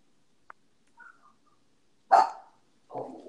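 A dog in a closet barks twice: a sharp loud bark, then a second rougher one a moment later, with a faint click and a soft whine beforehand. No one speaks.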